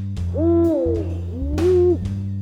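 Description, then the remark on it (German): An eagle owl hoots twice in quick succession, deep rounded calls rising and falling, clear over a low steady hum in the background. “U wie Uhu.”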